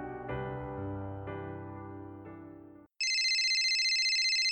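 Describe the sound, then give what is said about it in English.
A mobile phone ringtone plays a short melody of sustained electronic notes, then switches to a loud, shrill, rapidly trilling ring, with no voices. “Shh, I hear something. It's my phone.”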